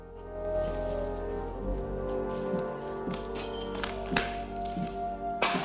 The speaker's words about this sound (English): Rocky stumbles towards Mickey Mix and enters the gym. It is derelict and looks to have been empty for a while. He punches a dusty old bag on a chain.